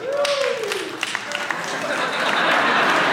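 A crowd applauds steadily, dense clapping swelling slightly toward the end, with a brief tonal whistle or call rising over it near the start; the audience is answering a question about how many of them are deer hunters.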